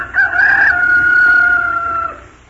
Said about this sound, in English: It was a rooster, of course.